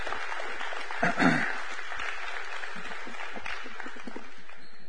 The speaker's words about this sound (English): All right. Y'all clap for the kids and the youth as they depart to go have a good time.